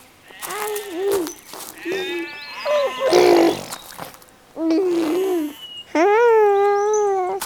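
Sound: goats bleating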